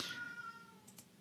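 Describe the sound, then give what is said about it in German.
A single meow from the speaker's pet cat, clear, with a steady tonal cry that fades out over about a second, followed by faint soft noises; no one speaks. “hört die vielleicht meine Katze, die kann Achtsamkeit auch nicht mehr hören.”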